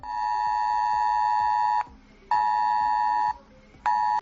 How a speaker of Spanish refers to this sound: No hace falta tener ninguna aplicación para recibir en tu móvil el mensaje Es Alert. ¿Recuerdas cómo suena?